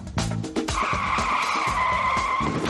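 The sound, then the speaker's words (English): Car tyres skid with a long, high-pitched squeal that holds steady for about two seconds, following a short burst of low engine rumble at the start. “It's a no-frills design that should be straightforward to build, but because most of the weight is up front, they'll need to corner carefully, or the back end will slide, and they could even skid off the track.”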